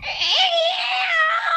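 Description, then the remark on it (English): A person imitates a cat's screech with one loud, drawn-out yowl that swoops upward, then holds a strained, wavering pitch for a second or so. “You're like, I desperately needed you to laugh at my impression of a cat.”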